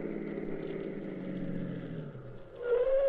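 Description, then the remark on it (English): A car engine hums steadily at a low pitch, then grows louder at the end as a higher whining tone rises, like a car pulling in, at a lonely spot at the corner of Allen Place and the river. No one speaks. “Here comes a car.”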